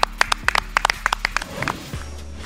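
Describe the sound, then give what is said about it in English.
A quick burst of hand clapping, a dozen or so sharp claps in an uneven rhythm, tapering off after about a second and a half, with a low hum underneath. “Clap it up. Clap it up. Well done.”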